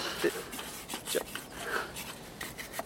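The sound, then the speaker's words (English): Scratchy rubbing strokes repeat irregularly as a farm baler is scrubbed clean by hand, a dry rasping texture with brief bumps and squeaks, at a moderate level throughout. “Could you stop cleaning that just for a minute?”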